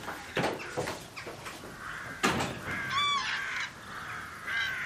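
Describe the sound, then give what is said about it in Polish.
Harsh cawing calls from several crows ring out repeatedly as the birds fly in, overlapping in an irregular chorus, with a few sharper, more tonal calls mixed in over a faint outdoor background, in the Polesie region. “Jak na zawołanie przyleciały.”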